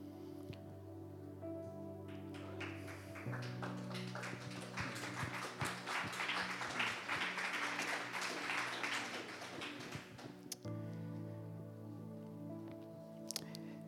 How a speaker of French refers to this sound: Si Jésus est là, il est digne d'un applaudissement encore plus fort. Seigneur, on veut t'applaudir.